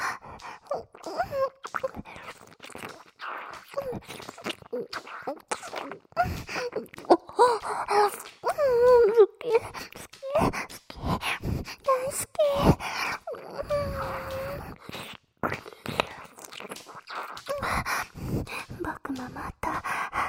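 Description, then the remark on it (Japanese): Heavy, uneven breathing and drawn-out sighs, mixed with soft voiced moans and short gasps, continuing in irregular bursts for about twenty seconds with no speech. “ママのこと求めて、ママの吐息を、呼吸を、漏れ出す声を全部全部聞いて。”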